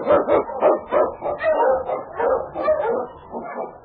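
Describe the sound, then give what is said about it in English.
King, a husky sled dog of the Eskimo League, barks and yips excitedly in a rapid, steady run of loud barks, with occasional whimpering tones mixed in. “The Wonder Dog King, swiftest and strongest of Eskimo League dogs, blazes the trail through storm and snow for Sergeant Preston as he meets the Challenge of the Yukon.”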